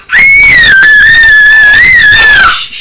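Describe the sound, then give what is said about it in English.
A child lets out a single sustained, high-pitched scream lasting nearly three seconds, loud, holding a steady shrill pitch with slight wavering before cutting off. “Will you sing Row, Row, Row the Boat without the screaming?”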